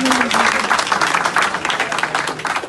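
An audience applauds steadily, a dense, sustained patter of many hands clapping at full volume throughout, with no speech over it.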